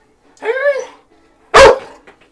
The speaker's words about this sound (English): Holy fuck, dog. Take it easy. This is seriously distressing you, isn't it?